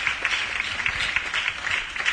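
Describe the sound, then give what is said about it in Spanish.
A crowd in Huelva, Spain, claps steadily for the city's children's mayor, a dense, even patter of many hands at moderate volume, sounding like an indoor audience applauding with no voices over it. “Es tu turno, así que un fuerte aplauso para Marina, muchísimas gracias.”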